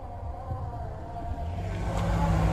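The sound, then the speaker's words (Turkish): Steady low rumble of congested road traffic and engine noise heard from inside a car after two days of heavy rain, a continuous muffled drone that grows slightly louder toward the end, with no voices. “Sesler, patırdılar, gürültüler geliyormuş. Arkamızdaki trafik de böyle.”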